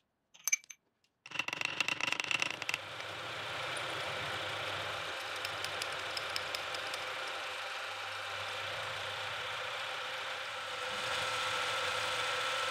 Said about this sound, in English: I've only had my milling machine for a couple of years now, so I'm still learning and I absolutely love it.